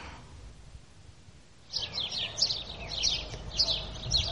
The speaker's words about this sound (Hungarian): Csirip, csirip. Milyen szokatlanul éles hangon énekelnek ezek a város végi verebek, amelyek még nem tanulták meg a városi illedelmes hangot. Csirip, csirip.